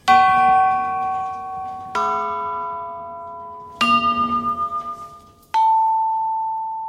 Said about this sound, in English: There are also chimes made of different materials in different diameters.